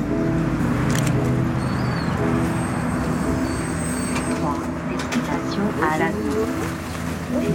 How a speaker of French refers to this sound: Il y a le bus qui arrive. Ah, le bus qui arrive.